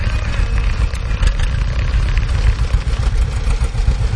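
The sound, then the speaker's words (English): The engine of a 1944 John Deere B tractor, being driven, runs with a loud, steady low chugging and metallic clatter on top that continues unbroken, and no voices are heard. “Dave lives over on the airport at Falls City, and it's a 1944 John Deere B. And I think that's a great looking tractor, Dave.”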